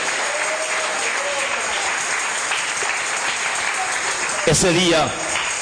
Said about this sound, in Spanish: Denle aplauso al Señor. Denle el aplauso al Cristo que vive. Aleluya.